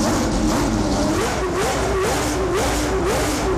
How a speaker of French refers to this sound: Voilà, Bugatti qui nous dévoile à travers une vidéo la voiture qui va procurer les plus grandes sensations jamais atteintes. Écoutez bien, un coupé avec un moteur satanique de 1850 chevaux, alors qui nécessite bien sûr un carburant spécial